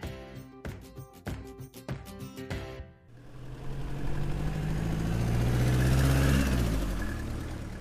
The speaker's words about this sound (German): Ach, so ein richtig schönes Roadtrip-Geräusch. Und damit herzlich willkommen bei uns an Bord im Auto. Wir fahren jetzt einfach mal gemeinsam in den Yosemite-Nationalpark hinein.